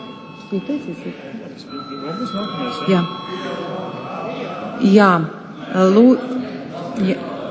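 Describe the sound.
A bell in the chamber of the Latvian parliament rings with a steady, continuous electric tone, fairly faint and partly buried beneath a man speaking loudly and clearly over it. The bell is rung before a vote on adding a social insurance bill to the day's agenda.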